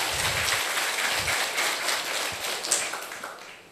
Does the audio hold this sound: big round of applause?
yes